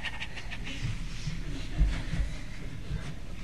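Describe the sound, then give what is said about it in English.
Someone imitates a happy dog panting with a quick run of breathy, rhythmic huffs, fairly steady, over a faint low background rumble. “"Good dog, good dog, good dog," and that dog's going to go like this.”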